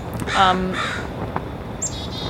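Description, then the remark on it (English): Birds call outside where neighbours keep bird feeders: two harsh, cawing calls close together, then a quieter, higher chirping call near the end, all over a steady background hiss with no one talking. “And I would be remiss not to acknowledge the birds that we're hearing around.”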